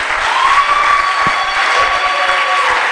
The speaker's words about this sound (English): Shall we clap? I finished my message. If you have to clap, clap very well.